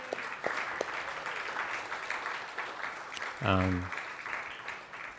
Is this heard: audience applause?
yes